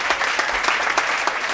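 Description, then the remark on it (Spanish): An audience of a Menorcan Friday show claps steadily for the news presenter, a dense patter of many hands with no voices, holding at an even, fairly loud level throughout. “I aplaudiments també per n'Axel, que tot d'una ens posa al corrent de l'actualitat.”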